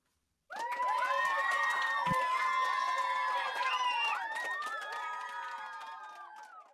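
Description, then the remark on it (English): A crowd of children gives themselves a round of applause for being experts on bedtime, cheering and squealing with high, overlapping voices while scattered clapping patters underneath, starting abruptly and fading slightly over about six seconds. “Give yourself a round of applause. But a quiet round of applause since we're supposed to be sleeping.”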